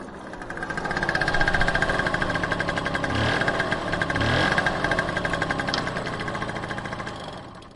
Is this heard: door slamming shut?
no